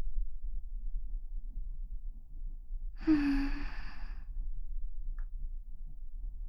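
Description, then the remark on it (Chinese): One heavy, breathy exhale with a slight voiced edge, close and fairly loud, lasting under a second. Otherwise there is only a quiet, low background hum, with no talking. “还是能听见你的喘息好一点儿。”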